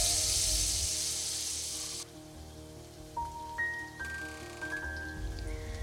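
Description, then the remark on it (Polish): Steady sizzling of small spoon-formed pancakes of rice flour batter with wild strawberries frying in a pan greased with coconut oil, loud for the first two seconds, then quieter with a few faint ringing tones and no talking. “Formuję łyżką niewielkie placki i smażę na wysmarowanej olejem kokosowym patelni.”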